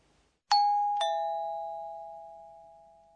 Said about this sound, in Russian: Это звонок в дверь. В японском языке слово для него «пим-пом».